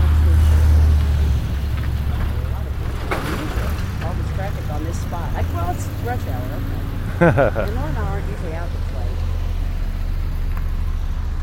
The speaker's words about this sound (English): Man, where are all these cars coming from?